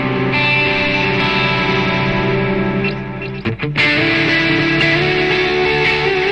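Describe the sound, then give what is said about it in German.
A sustained, distorted electric guitar rings through a delay effect, notes smearing into echoing repeats with a dense, washy tail; a brief choppy dip midway before the wet, layered sound swells back. “Aber ihr seht, wo die Reise hingeht, also ich kann halt mit dem Delay.”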